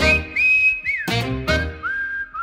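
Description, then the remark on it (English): A high, piercing train whistle sounds in several drawn-out blasts with sliding pitch, broken by two short bursts of noise, loud with no voices. “That's why I like to hear the train whistles blow.”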